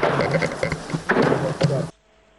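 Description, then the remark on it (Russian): Several sharp, irregular bangs of shelling of a village, heard in the distance, punch through a steady, droning buzz, then everything cuts off abruptly into near silence. “Вы можете послушать звуки обстрела.”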